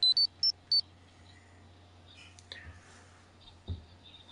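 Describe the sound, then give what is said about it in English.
The Morphin transition chime of four quick, bright electronic beeps in a rapid run, followed by a few faint clicks and soft rustling over a low, steady hum. “After you hear the Morphin chime, start your player or streaming or whatever, and we will start Return of an Old Friend, Part 2.”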